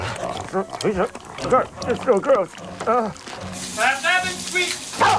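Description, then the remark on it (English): Loud dog sounds: a dog wearing a priest's collar gives a few gruff barks and grunts, jumps up and knocks a man flat on his back, then slobbers wetly and snufflingly at his face, with a man's voice speaking and exclaiming over the animal noise. “The dog jumps up and knocks Ben flat on his back, then slobbers amiably at his face.”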